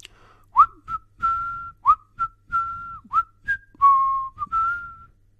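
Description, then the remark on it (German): A cheerful whistled tune, clear, made of short rising chirps and held notes in a bouncy rhythm, about a dozen notes over several seconds with no talking, as someone whistles merrily while saying goodbye. “sagt er und verabschiedet sich lustig pfeifend.”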